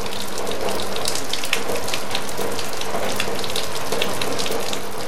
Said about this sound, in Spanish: Lluvia y lodo apagan todo. Los humanos murmuran y el agua grita.